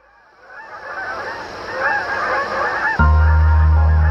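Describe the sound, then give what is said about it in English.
A flock of geese honk in overlapping, rising calls that grow steadily louder, then a deep, steady low drone suddenly comes in beneath them near the end. “On the one hand, they are a national treasure, a majestic bird that symbolizes the grace and wild beauty of this country.”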